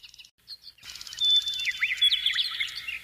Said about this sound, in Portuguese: Ouça o canto dos pássaros, a serena alegria que há nos seus gorjeios, e deixe essa vibração penetrar em suas emoções, em todo o seu ser.